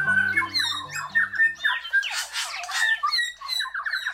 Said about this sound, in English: A forest in New Zealand rings with the sound of bellbirds, whose indigenous name is Korimako. Korimako are 8-inch, mossy green birds with dark wings and tail, a purple sheen on the face, and red eyes.